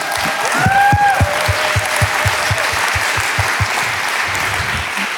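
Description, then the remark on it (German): An audience at a sermon claps steadily for several seconds for the projector team, with distinct individual hand claps standing out over a dense wash of applause. “Bevor ich weitermache, gebt mal dem Beamer-Dienst einen Applaus.”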